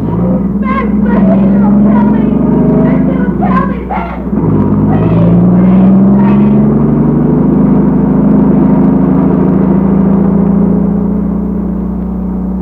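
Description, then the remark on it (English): A car engine runs loud, then revs up and pulls away with rising pitch, a steady rumble underneath; a voice briefly shouts over it near the start that he is not in the car yet. “I'm not in the car yet.”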